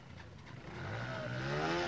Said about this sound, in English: I'm at the main motorcycle market here in Gaza City, and there are literally hundreds of bikes lined up in front of me, many of them for sale.